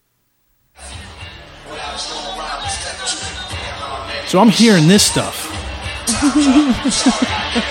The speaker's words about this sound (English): And the crowd's hype. And I'm hearing the DJ playing this.